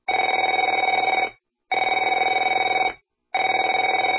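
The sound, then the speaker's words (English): A telephone rings in three loud, evenly spaced bursts, each a rapid trilling bell tone lasting over a second, separated by short silences, with no voices. “Afraid to answer it?”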